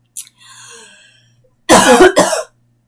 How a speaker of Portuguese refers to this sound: Até me engasguei e tossi.